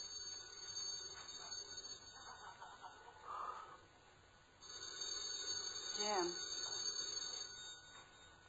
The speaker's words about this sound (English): The telephone's ringing.